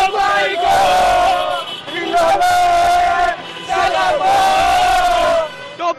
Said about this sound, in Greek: Βρισκόμαστε στο λιμάνι και όπως μπορείτε να δείτε, χιλιάδες φίλαθλοι οδηγούν κορνάροντας και ανεμίζοντας κασκόλ και σημαίες του Ολυμπιακού, οδεύουν προς το Πασαλιμάνι.